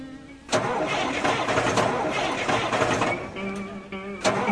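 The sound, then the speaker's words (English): The engine of a 1966 classic car cranks loudly on a hot day, churning for several seconds without catching, then briefly dies down before another sharp attempt at the end. No one speaks. “My car's bust. Get for getting a 1966 classic car.”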